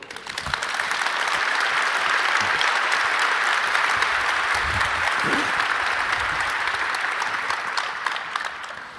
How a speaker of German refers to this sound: tut mir einen Gefallen und empfangt die drei mit einem wunderbaren Applaus.